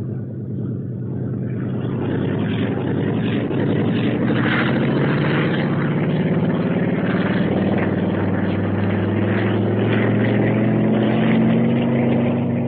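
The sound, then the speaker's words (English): Test pilot Stan Mercer's new propeller plane takes off on a test flight, its engine roaring steadily, the droning pitch slowly rising as it builds power, with no voices over the sustained, loud hum. “Wow, look at that guy take off. Like he was driving a Jeep.”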